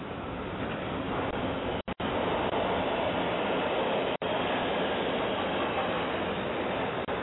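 Steady, loud rumbling roar of a subway train in motion, a dense wash of noise with no voices, briefly cutting out twice as if the signal dropped.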